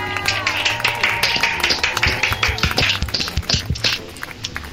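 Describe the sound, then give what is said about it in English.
A few people clap together for five contest winners in a brisk, uneven patter that lasts several seconds, moderately loud, with a low steady hum underneath. “Let's have a round of applause for those five.”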